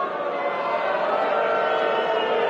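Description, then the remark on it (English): A large crowd at the Cubs Convention boos the Marquee Network in a steady, dense roar that holds at an even, fairly loud level for a couple of seconds, with no single voice standing out. “You guys won't, you won't be booing about the Marquee Network in 1 year.”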